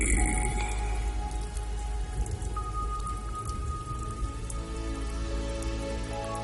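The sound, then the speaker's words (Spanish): Heavy rain pours down steadily, a dense continuous hiss of drops drumming on surfaces, with no voices and a constant, even intensity throughout. “Es tiempo de tormentas.”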